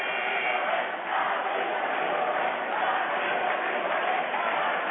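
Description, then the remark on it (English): The Carthage Pep Band and a large crowd do the I Believe We Will Win cheer chant in a loud, steady roar that holds for several seconds without pause, with no single voice standing out. “And now the Carthage Pep Band does the chant that we've heard a lot from Calvin College over the years, the I Believe We Will Win cheer chant.”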